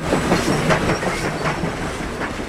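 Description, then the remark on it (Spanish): A tram rolls steadily along its rails with a continuous low rumble and a quick, regular clickety-clack of wheels crossing rail joints, with no voices. “Bueno, ¿querés que escuchemos un poco más sobre los tranvías?”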